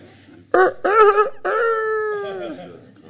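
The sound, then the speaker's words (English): A person imitates a rooster's crow, a loud voice rising through a few short choppy bursts into one long, drawn-out wavering note that fades at the end. “In the morning we hear the cock crow.”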